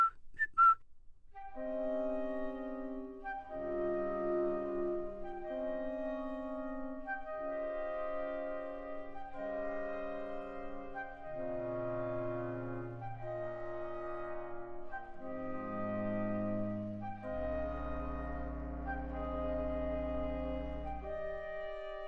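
A clarinet repeats a short two-note cuckoo-like figure again and again over sustained, layered instrumental chords, the music steady and moderately loud, with a deep bass note entering near the end.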